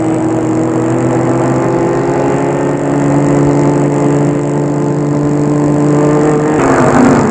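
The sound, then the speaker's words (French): A car engine idles steadily and loudly, holding a low, even hum, then shifts near the end as the arriving vehicle seems to settle to a stop. “Sortent de voiture et le maire va ouvrir la maison.”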